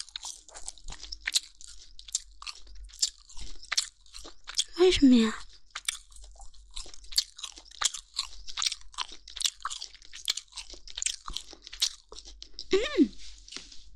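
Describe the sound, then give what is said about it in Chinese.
Continuous crunchy chewing of something hard that has been steamed, with rapid crisp bites and cracks throughout, briefly interrupted twice by a short spoken question. “好硌牙，按理说不会啊，都蒸那么久了，你听听，你的鸡鸡好硬啊，嚼不动。”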